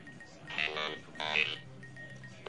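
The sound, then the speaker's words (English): A telephone rings at radio station KAOS in Los Angeles as the host goes to the phones to take a listener request, in two short, bright bursts with a brief pause between them, and a third ring just starts at the end. No one speaks over it. “Let's go to the telephones now and take a request.”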